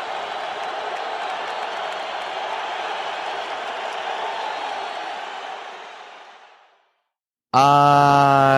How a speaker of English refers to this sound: Roars of cheer could be heard throughout the casino as the greatest night of Brazorian fighting.